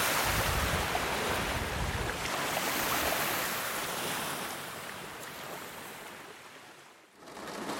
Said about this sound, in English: Generally, it's a very relaxing sound. Yeah, one can really sleep to the sound of waves. It's very meditative.